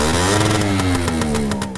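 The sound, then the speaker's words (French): A small engine drones loudly and steadily, its buzzing pitch sagging slightly as it holds, like a scooter revving for a couple of seconds with no talking. “Il devait rouler 80 avec son crisse de scooter.”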